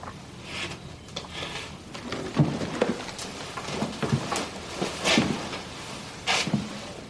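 Thunder rumbles under a steady wash of rain-like noise, broken by several short, sharp cracks spaced a second or two apart. No one speaks.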